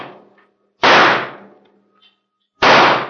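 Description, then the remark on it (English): Two loud gunshots, fired by a deputy on the sheriff's signal, ring out about two seconds apart. Each is a sharp, bright crack trailing off in a brief echoing decay, with near silence between them and no voices. “No, let me get a head start so he won't see me. And then start firing.”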